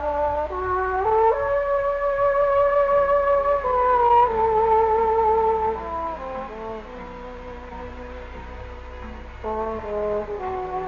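A trombone plays a slow, sentimental melody of long sustained notes that glide smoothly from pitch to pitch, rich and brassy over a soft, steady low accompaniment, heard from an open doorway on Fifth Avenue in New York, with no voices.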